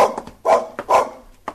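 A dog barks loudly, two strong barks in quick succession with a few shorter, quieter yaps around them. No one speaks.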